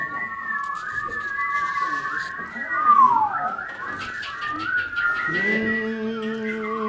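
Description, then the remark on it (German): Several people whistle together in overlapping, warbling tones that mimic birdsong, sustained and fairly loud throughout, with a low murmur of voices underneath. “Der Ausheimische meint Vogelgezwitscher. Bitte alle anfangen pfeifen.”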